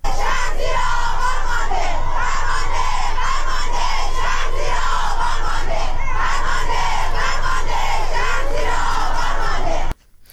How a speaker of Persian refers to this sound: کاربران شبکه‌های اجتماعی در ایران در ساعت‌های اخیر به رغم دشواری‌های فراوان در اینترنت، ویدیوهایی را از اعتراض ها و شعارهای سرداده شده از سوی معترضان انتشار دادند.